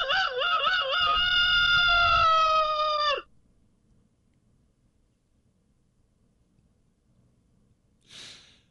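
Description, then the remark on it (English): A rooster crows once, loud, a drawn-out call lasting about three seconds, followed by near silence and a brief breathy puff of noise at the very end. “Meet the hardline break rooster.”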